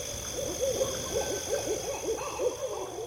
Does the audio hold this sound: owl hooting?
yes